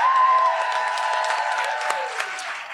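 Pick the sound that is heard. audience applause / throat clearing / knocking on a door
audience applause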